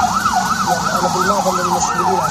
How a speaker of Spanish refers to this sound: Sonido de las ambulancias que han entrado en la franja de Gaza.